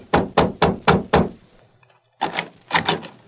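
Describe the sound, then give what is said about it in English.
A marshal raps firmly on the door of a young man's home, five quick, evenly spaced knocks, then after a brief pause a second, looser burst of knocks. Loud, with no voices. “Convinced that Sheriff Flint's suspicion of Jeff as an outlaw and murderer was sound, the Marshal, with Flint and Dutch, knocked on the door of the youth's home.”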